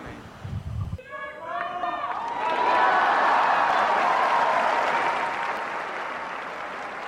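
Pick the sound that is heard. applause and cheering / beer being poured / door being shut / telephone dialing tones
applause and cheering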